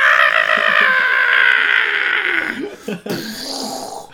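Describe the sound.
A loud, sustained, strained scream held for over two seconds in the style of a Dragon Ball Z power-up, going Super Saiyan 2, then breaking into rough, gravelly vocal bursts, intense.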